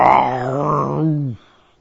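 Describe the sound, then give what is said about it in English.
A man's voice imitates a lion's roar: one deep, loud, sustained growling cry lasting over a second, its pitch sagging as it ends abruptly, followed by near silence. “In verse 3, this mighty angel had a mighty voice, because it's like a deep, resonant sound echoing a loud voice like a lion. Roaring.”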